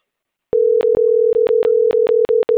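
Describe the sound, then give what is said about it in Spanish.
A steady telephone tone while dialing, loud, broken by a series of brief clicks or dropouts at irregular intervals, with no voices. “Acá le sigo marcando todavía.”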